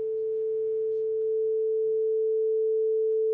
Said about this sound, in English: Okay, here's what 440 hertz sounds like. Let's just like hear a sine wave of that.